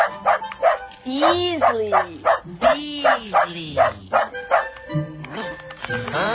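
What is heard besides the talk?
dog barking and yipping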